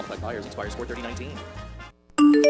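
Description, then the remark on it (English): A voice talks, then after a brief pause a phone's text message notification chime sounds once, loud and bright, with layered electronic tones ringing out at the end, signalling a text message or email arriving while the phone's owner is driving a car. “It's your phone. Someone has sent you a text message or email while you're driving a car.”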